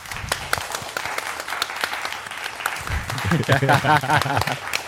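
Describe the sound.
A short round of applause, a brisk patter of several people clapping nearby, and a man's voice begins talking over the clapping partway through.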